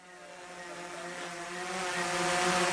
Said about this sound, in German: 2 Meter über dem jungen Wissenschaftler von der Uni Rostock schwebt eine ferngesteuerte Kameradrohne, ausgerüstet mit einem sehr präzisen Ortungssensor.